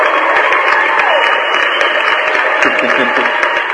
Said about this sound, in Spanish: Negociaciones, nuestros amigos de negociaciones también están por aquí, un aplauso porque casi no nos visitan.